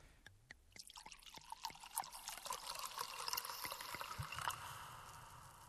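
Wine pours into glasses in a steady gurgling stream lasting several seconds, its pitch rising as the glass fills, preceded by a few light glassy clinks.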